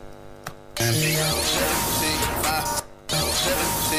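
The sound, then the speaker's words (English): A loud impact hit sample, tried out for a song during music production, bursts in with a thick wash of white noise that sustains over the music, cuts off briefly, then slams in again. “Okay, that's too much white noise. It totally is over the whole song, so we need a different one.”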